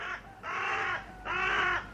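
A crow caws loudly, three harsh calls in a row, each about half a second long, with brief gaps between them and no other sounds.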